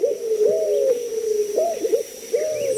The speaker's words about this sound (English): Listening on Key West to mangrove cuckoos and gray kingbirds, you might imagine yourself in Cuba or the Bahamas, and you might see another Caribbean bird, the white-crowned pigeon.